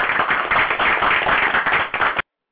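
A loud burst of applause from many hands clapping in a dense, steady wash for about two seconds, then stopping abruptly into silence.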